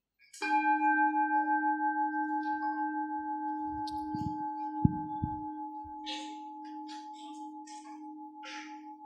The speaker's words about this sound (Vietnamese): Và để chúng nghe một tiếng chuông.